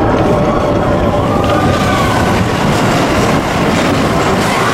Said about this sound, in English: The train reverses, escaping backwards through a second shortcut through Forbidden Mountain.